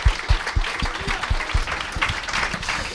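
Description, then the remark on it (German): A live audience at a live Stammtisch held at a Bierstube applauds steadily, a dense wash of many hands clapping at once, with a few sharper claps standing out through the roar. “Und deswegen von uns an euch großen Applaus, aber ihr dürft euch auch gerne selber Applaus spenden.”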